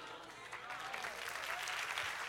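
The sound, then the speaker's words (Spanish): An audience breaks into steady applause, a dense crackle of many hands clapping that holds fairly loud and even for a couple of seconds, with no voices standing out. “Si usted quiere, aplauda.”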